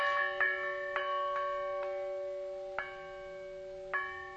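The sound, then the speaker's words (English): Huge iron church bells struck several times at irregular intervals, each strike ringing on with long, overlapping, resonant tones that blend into a continuous hum. No voices are heard. “It's huge iron bells.”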